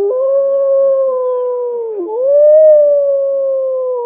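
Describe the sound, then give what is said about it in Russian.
Wolves howl in long, sustained tones, one steady wail dipping and fading before another rises to take over, loud with no other sounds around them. “Волк умеет петь отлично. Голос зычный, необычный называют воем.”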